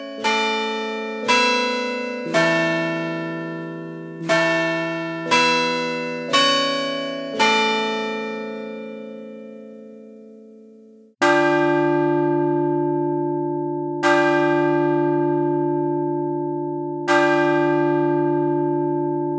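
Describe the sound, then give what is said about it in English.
Bells of a Chime Master carillon system ring a short, bright melody of overlapping strikes, then a deeper bell strikes the clock hour three times in slow, evenly spaced, resonant strokes with long ringing decays. “If you wish to strike the clock, a variety of styles are programmable for any time periods you desire.”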